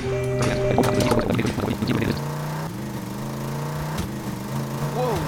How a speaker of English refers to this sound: I can barely hear anything over that motorcycle.